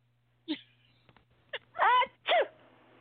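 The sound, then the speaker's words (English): A few short, sharp breathy bursts lead into two loud, voiced sneezes in quick succession, caused by allergies, with quiet room tone in between. “Oh, it's just allergies, you know. It's not the corona.”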